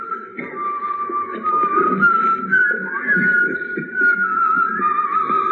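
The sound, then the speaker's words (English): A person whistles a flowing melody from the Messiah on the BCN, with smooth, sustained notes that rise and fall, over a soft, murmuring lower background, with no talking. “Now, this was a big hit. The Whistle Along Messiah”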